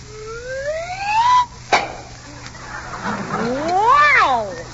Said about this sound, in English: Okay, here's your kiss.